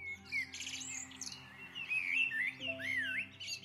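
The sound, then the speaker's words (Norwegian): A family of magpies calls continuously, overlapping chirps and chattering notes, over a low steady background hum, with no voices. “Jeg tok på meg friluftshatten min og spurte en skjærefamilie om hvordan de bygger reirene sine.”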